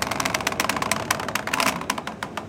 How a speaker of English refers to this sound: The Star Ferry pulls alongside a pier and deckhands spring into action. Some pass dock lines as thick as a can of soda to the wharf and wrap them around bollards to steady the football-shaped boat.